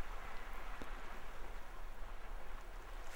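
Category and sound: nature, ocean waves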